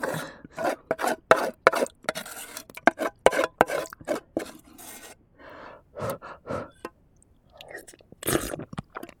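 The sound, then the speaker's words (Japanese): Wet, crunchy chewing of rice scraped from the bottom of a hot pot, soaked in the broth and with some scorched crust, with irregular bursts of mouth sounds and a few soft breaths, no one speaking. The bites come in uneven clusters, some louder and sharper than others. “もう少し噛み締めていたい。”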